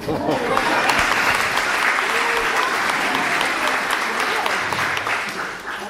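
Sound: strong audience applause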